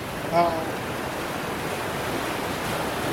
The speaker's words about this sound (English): That was a big one. But yes, the Pacific Ocean crashing into the coast of Hawaii.